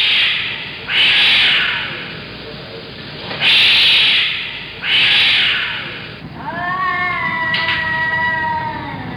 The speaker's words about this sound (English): And every night at 3 a.m., there are cats.